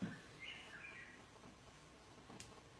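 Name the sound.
bird chirping outside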